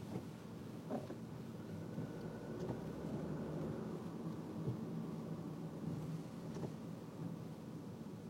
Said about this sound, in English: That's a lot of cars. Okay, great. Maybe I would have enough time to sign up for a new Skype account while sitting here in traffic.